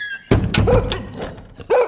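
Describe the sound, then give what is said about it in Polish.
An excited dog named Piorun barks from the bedroom of an apartment in a handful of sharp, slightly shrill yelps at an uneven pace, with a brief pause before the last bark and no voices. “Naraz z głębi mieszkania, z sypialni, rozległ się szczek pioruna. Namiętny, trochę piskliwy, jaki zawsze wydawał, gdy zobaczył kota na drzewie.”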